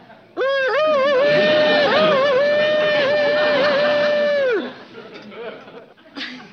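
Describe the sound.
A man's voice imitates a rooster's crow to try to get a rooster to crow, in one long, loud call lasting about four seconds, its pitch wavering before breaking off, followed by faint rustling and a brief noisy burst.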